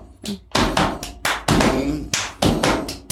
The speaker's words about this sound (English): I even have the clap down. Were you a cheerleader? Yes.